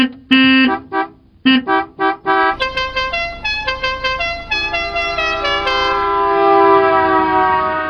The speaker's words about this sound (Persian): به مثل بوق.